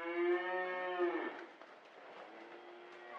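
A single long, droning cow moo rings out loud for about a second at a cattle farm outside Pendleton, Oregon, at 11:22 p.m., then fades into a soft, hissy outdoor background with no voices.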